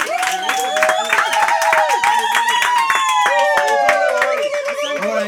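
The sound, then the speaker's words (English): An audience claps steadily throughout, a dense patter of many hands, with high-pitched voices calling and cheering over the applause. “Let's clap for him.”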